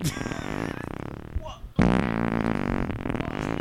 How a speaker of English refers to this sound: Let's hear one. You wanna fire one up? I have a folder called farts.